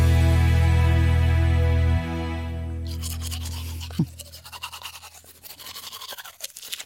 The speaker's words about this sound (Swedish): Får låna din tandborste? Det verkar så fräscht. Nu undrar du kanske varför jag står här och borstar tänderna i studion.